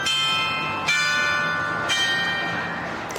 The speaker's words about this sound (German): Hat auch ein Glockenspiel und einmal pro Uhr kann man das hier über das ganze Ort hören, wie das klingelt. Das Glockenspiel des Rathauses, auch ein mechanisches Wunderwerk, lässt zu unserem Abschied passend den Hochzeitsmarsch erklingen.